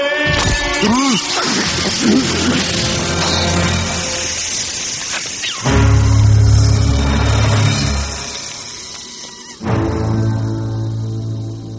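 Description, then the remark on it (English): A helmet is smashed with loud, heavy crashing impacts, one midway and another near the end, over a dense, rumbling, hissing backdrop with no clear talking. “Smashed his helmet.”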